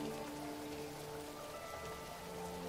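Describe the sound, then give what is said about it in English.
Steady rain falls in a continuous, even patter across the whole stretch, with soft sustained tones humming quietly beneath it and no voices. “The raindrops act as tiny pinpoints of light, revealing her angelic features.”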